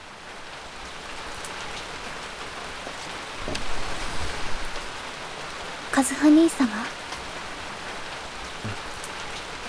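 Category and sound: nature, rain falling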